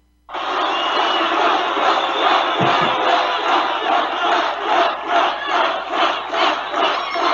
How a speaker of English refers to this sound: They are going wild. They've already been cheering for like 5 minutes.